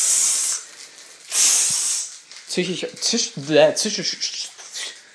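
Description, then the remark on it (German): A person makes two drawn-out hissing sounds with their mouth, imitating a sizzle, followed by someone talking. “Ja, zischen, das kann ich auch.”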